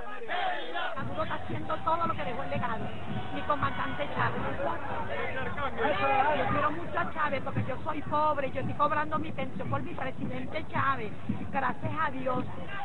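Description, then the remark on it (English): A dense crowd of Maduro supporters roars and chants continuously at a rally, many voices shouting together in loud, overlapping bursts with rising cheers, a steady wall of rally noise throughout. “And amid this crowd, at least, he appears to enjoy enthusiastic support in spite of the food shortages.”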